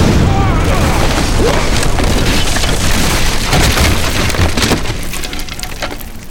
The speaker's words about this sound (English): It burst, spitting out a horizontal column of flame through the air, just above Galadon's head. The column crashed into a bookshelf.